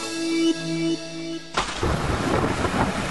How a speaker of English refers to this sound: Sounds relaxing, right? Rain on your roof. Running into gutters, overflowing because they're clogged, pulling at the fascia, causing damage you can't see.